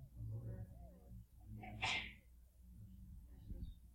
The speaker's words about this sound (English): Bless you. Bless you. Salud.